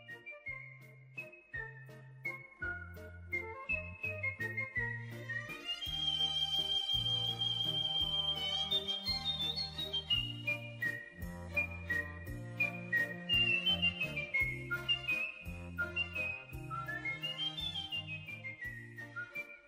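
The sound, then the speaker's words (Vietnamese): Bright, trilling whistled notes imitate a nightingale's song enveloping a castle, rising and falling in quick runs over a steady, low instrumental accompaniment. The melody is continuous and fairly loud throughout, with no one talking. “Tiếng chim họa mi, đúng là tiếng chim họa mi đang kết thành một bức rèm âm thanh và von vây bọc lâu đài.”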